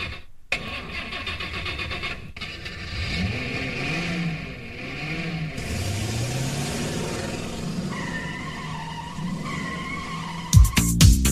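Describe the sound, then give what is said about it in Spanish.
A car engine cranks and starts, then revs with rising and falling pitch while tires squeal in sustained screeches, all fairly loud, ending in a sharp burst. “Bueno, ya arranca el coche”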